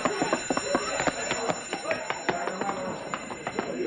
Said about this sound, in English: Hey, he stepped on the alarm. That's the last thing he'll ever step on.